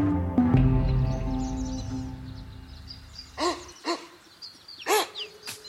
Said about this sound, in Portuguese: Se você acha que esse som vem de latidos de cachorros, você se enganou. Esse é um grupo de capivaras conversando.